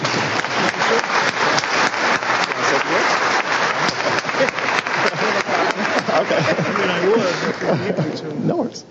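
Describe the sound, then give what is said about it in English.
Sustained applause from an audience for several seconds, dense and steady clapping with murmuring voices underneath, tapering off near the end. “So let's give a round of applause for Jerry.”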